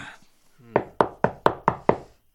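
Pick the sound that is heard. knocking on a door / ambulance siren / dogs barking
knocking on a door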